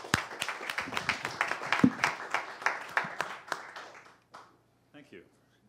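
Audience applause: brisk, steady clapping for about four seconds, then it thins out to a few scattered claps and fades into silence.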